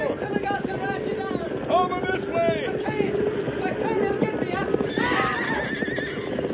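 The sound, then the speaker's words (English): A horse neighs and whinnies loudly several times over a steady, dense drumming of galloping hooves, with a final high, drawn-out whinny near the end. “This horse had a gopher hole.”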